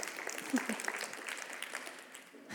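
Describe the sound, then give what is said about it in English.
An audience claps steadily, a dense patter of many hands that holds at a moderate level for a couple of seconds, with a faint voice briefly audible within it. “Yes, you can clap about that.”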